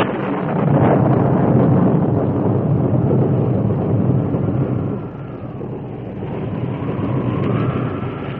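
A loud, continuous storm roar of driving wind and drenching rain at nightfall on the plains, with a low rumbling undertone, dipping briefly midway before a thin howling whistle rises over the gusts near the end. No voices.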